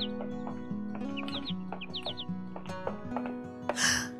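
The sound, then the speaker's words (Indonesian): A pet sooty-headed bulbul that has left its open cage sings from a tree in short, bright chirping phrases, repeated several times over a steady low hum, with a louder rustling burst near the end. “Nah, itu masih terdengar suara merdunya.”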